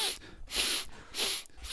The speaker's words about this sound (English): I've just realised what I've done as well with that. I've just started sniffing a microphone and someone's going to have to listen to that.